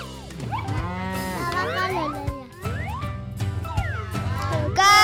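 A cow moos loudly, several long, drawn-out calls with rising and falling pitch following one another over a few seconds, ending in a burst of noise.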